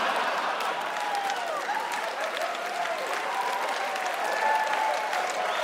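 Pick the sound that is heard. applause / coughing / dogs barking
applause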